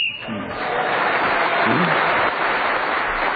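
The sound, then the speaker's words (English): A short, sharp whistle blast goes as a man speaks, quickly swallowed by a burst of steady audience applause and clapping that carries on loudly to the end. “… speaks as the whistle went.”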